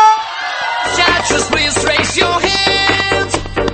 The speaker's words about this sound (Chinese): 哇哦，你们最牛逼的尖叫声全部被我录下来了。